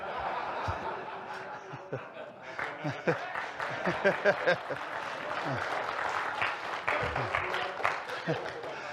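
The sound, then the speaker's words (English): A crowd claps and applauds steadily for several seconds, with scattered laughter and chatter mixed into the dense, moderately loud clapping. “When was the last time you clapped when somebody said the congregational pastor's going to speak now?”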